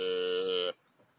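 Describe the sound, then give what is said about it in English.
A person imitates a frog's croak with a single loud, buzzy, drawn-out call lasting under a second, which cuts off abruptly into near silence. “Ribbit.”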